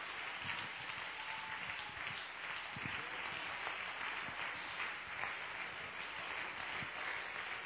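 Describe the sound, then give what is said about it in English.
Sustained applause from a large church audience at the 37th annual conference of Calvary Apostolic Church, honoring the church's founder, a dense, steady wash of many hands clapping at an even level throughout, with no talking over it. “Why don't we give him a round of applause just as an honor to great man of God”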